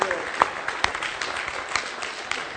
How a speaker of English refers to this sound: Let's clap and give the Lord a clap offering. Hallelujah.